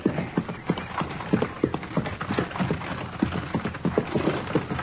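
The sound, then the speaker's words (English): Steady clip-clop of horse hooves pulling a buggy, a brisk regular rhythm of hoofbeats, with a faint rattling, noisy background underneath. “How do you like riding in a buggy, Matt?”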